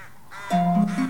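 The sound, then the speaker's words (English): Crows caw in a quick run of harsh, nasal calls that blur together, loud, flying above a horse-drawn carriage travelling through a snowstorm in the evening light, following a brief quiet moment with no voices. “Crows fly above a horse-drawn carriage that's travelling through a snowstorm in the evening light.”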